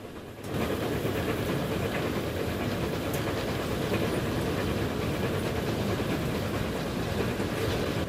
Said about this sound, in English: The locomotive's wheels, piston, crankshaft and connecting rods working in symphonic harmony.